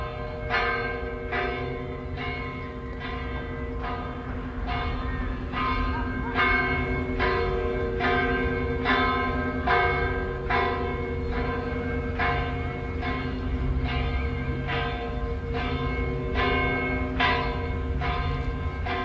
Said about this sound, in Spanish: Atardece cuando vuelvo a Molina. El sol melancoliza los tejados y las campanas de las iglesias suenan como a desgana y a cansancio.